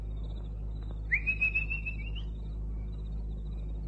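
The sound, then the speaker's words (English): A person whistles for a dog at a kitchen door: a single clear, sustained whistle, rising briefly then holding a steady high pitch for about a second, heard alone over a quiet background hum. “At the kitchen door, Keith paused and then whistled the dog Boadicea.”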